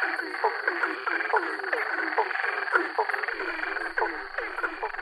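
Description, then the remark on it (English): A dense chorus of male frogs calling to attract mates and claim territory, with many overlapping rhythmic croaks and chirps repeating steadily throughout. The chorus is loud, with no voices present. “So when you get a large chorus of frogs, that's what's happening.”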